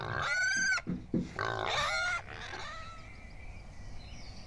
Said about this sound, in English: So it's also like this taste memory, but also like the sweat of the horse or the smell of the pigs or the sound of the pigs when they are about to eat and my grandpa is cooking the dinner and they're all screaming loudly.